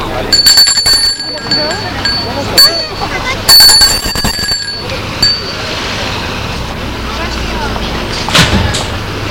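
doorbell ringing

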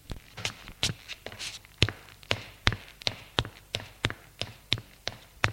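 footsteps climbing stairs

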